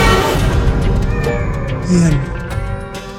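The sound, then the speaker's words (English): A cat meows in a drawn-out, wavering cry, loud, with a rising and falling pitch over a few seconds and a dense, busy background. “Ian's now inside a cat's body.”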